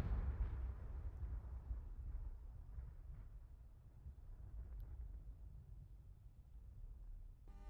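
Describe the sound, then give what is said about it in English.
A long explosion sound effect, a deep, heavy rumbling roar that stays loud for several seconds before easing slightly at the end, with no voices over it. “Wow, that was a long explosion.”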